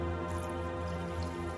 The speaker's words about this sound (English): Next, we'll fill the bubbler tank with water.